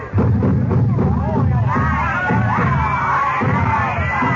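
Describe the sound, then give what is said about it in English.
A bustling bazaar crowd where a little group of men is gathering: many overlapping voices form a steady, loud murmur with occasional raised calls and shouts rising above the babble throughout. “I wonder why that little group of men is gathering over there.”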